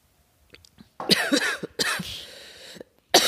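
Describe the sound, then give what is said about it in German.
A person with a lingering cough coughs several times: a cluster of harsh, raspy coughs with a longer rough exhale in the middle, then one more sharp cough after a short pause. “Schmeckt gut, aber ich habe halt immer noch Husten.”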